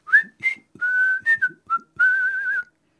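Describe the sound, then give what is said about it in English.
Someone whistles a casual, meandering tune, with a few short chirpy notes followed by longer held and gently wavering ones, clear and alone with no talking. “Jasper Tudor left the Breton town of Vannes, apparently on his way to meet with the Duke Francis, presumably whistling casually.”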